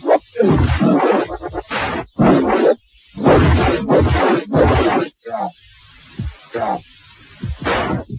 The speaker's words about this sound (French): La bande sonore est d'un grand classicisme, bruit de coups et explosions ponctue l'action. On écoute la version Amiga.